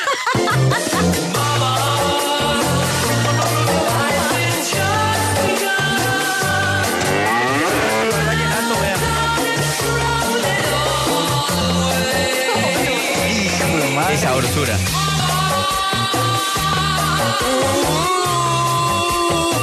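A vallenato-style cover of a rock song plays loud for the whole stretch, with a steady bouncing bass rhythm, bright layered melody lines and sliding, wavering pitch bends, and no talking over it.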